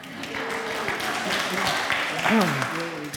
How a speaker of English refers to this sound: Now you can applaud.